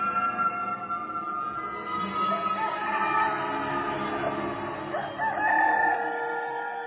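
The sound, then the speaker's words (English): A rooster crows loudly, its strained, drawn-out call rising and falling over several seconds against a busy, steady background with no talking. “And at once, a rooster crowed.”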